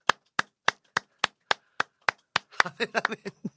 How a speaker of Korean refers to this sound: 박수 치며 찬양하는 거예요.